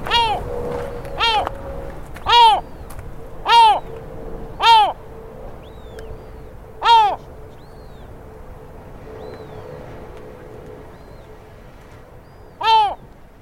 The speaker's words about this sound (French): Il a ses pieds, il piaille légèrement. C'est un oiseau qui a quelques jours.